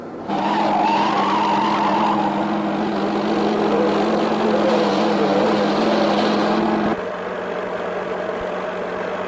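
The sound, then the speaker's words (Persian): Loud, roaring car engines race at high speed with tires skidding in a car chase, a sustained revving pursuit that drops off abruptly near the end, leaving a quieter rumble. “امکان نداره با اون ماشین رونیش ما گمش کنیم. بهشون نزدیک میشیم.”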